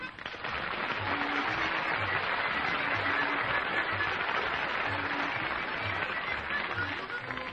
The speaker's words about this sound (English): Thank you very much indeed for all that applause. I'm really very touched by your overwhelming response to my all-too-brief performance so far.